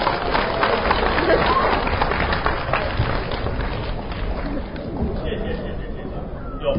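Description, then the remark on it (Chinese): Steady audience applause welcoming crosstalk performers Guo Degang and Yu Qian on stage for the piece 'Kua Zhuzhai': a dense, crackling wash of many hands clapping at once, loud and continuous, easing off slightly toward the end with some crowd murmur mixed in. “接下来我们要欣赏的一个节目叫做夸住宅，那表演者是郭德纲、于谦，掌声欢迎。”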